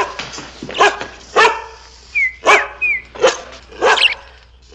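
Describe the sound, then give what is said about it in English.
A dog named Tiger barks repeatedly, about half a dozen loud, sharp barks in an uneven rhythm, with a couple of thin high-pitched whines slipped in between. “Tiger, be quiet.”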